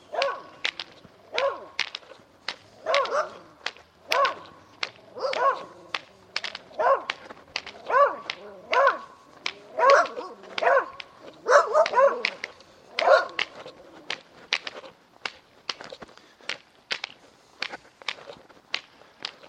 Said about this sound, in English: Some friendly dogs down here waiting to greet us.